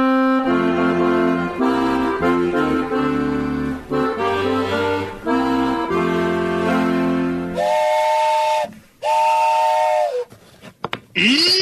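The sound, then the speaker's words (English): A steam train whistle blows a long, loud chord of several tones, then gives way to bursts of hissing steam and a few shorter, sliding whistle blasts. “That's where Daddy's meeting us, just as soon as his train gets in.”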